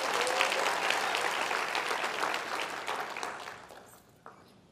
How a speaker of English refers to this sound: All right, clap your hand and be seated.